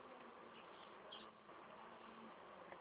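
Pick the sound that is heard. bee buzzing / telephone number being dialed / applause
bee buzzing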